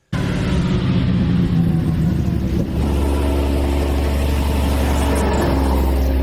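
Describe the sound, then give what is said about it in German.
A car engine revs and rumbles, a steady low roar with a brief dip midway before settling into a deep, continuous drone of traffic on the A100 motorway. “Das Tagebuch der A100.”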